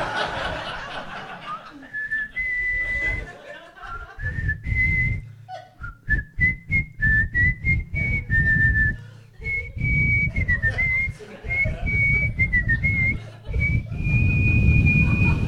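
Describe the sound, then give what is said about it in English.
A person whistles a slow, lilting melody clearly and steadily for the whole stretch, while scattered chuckles and laughter from a crowd rise and fall underneath. “Want me to whistle it?”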